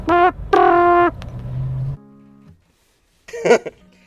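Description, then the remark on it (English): Car horn honking: a short blast and then a longer, loud steady honk, followed by a lower droning tone and, after a brief silence, another quick honk burst. “You don't have to honk.”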